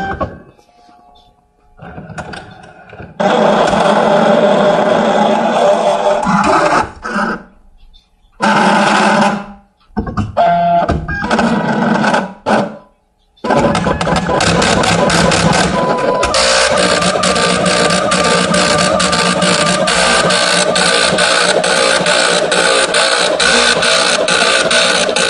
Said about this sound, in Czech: Takže pojďme si to taky pustit a všimněte si, že na rozdíl vlastně od těch textových tiskáren, tady u těch reliefních tiskáren je jako trochu jiný ten způsob právě nabírání a přípravy toho tisku hned na začátku.